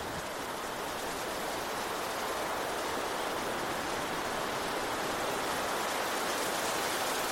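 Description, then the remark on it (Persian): Steady, dense rain pours down in a constant hissing wash with no breaks, a thick, stormy downpour that fills the whole scene evenly with no voices present. “جایی که تو میخوای بهش سفر کنی اون بره اقیانوس آرامه، یه مسیر سخت و طوفانی.”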